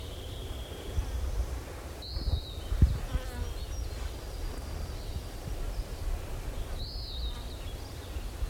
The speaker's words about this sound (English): all these flies and mosquitoes.